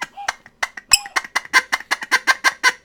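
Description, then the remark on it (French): Ducks quack in a rapid, steady run of loud nasal calls, about a dozen or more in under three seconds, with no one talking; the ducks are triggered by Manu during a Radiola radio broadcast. “Ouais, c'était des canards, je crois bien, c'est des canards que Manu active depuis le début de cette émission.”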